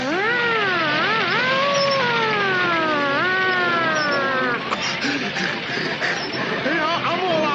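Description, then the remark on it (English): A human voice wails in rising and falling sweeps, imitating a police siren for several seconds, loud, while another person drives, then breaks off into a jumble of background noise and voices. “Sarge, you be the siren for a while I drive.”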